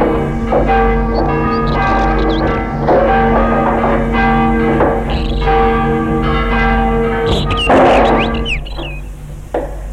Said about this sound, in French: Un coulisseau lyonnais actionne une cloche tyrolienne.